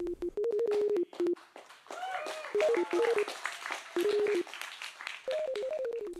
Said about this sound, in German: Szenenapplaus, so nennt man es, wenn das Publikum spontan klatscht, weil ihm eine Darbietung auf der Bühne besonders gut gefallen hat. Szenenapplaus hat am Wochenende auch Gertrud erhalten und so hörte sich das an.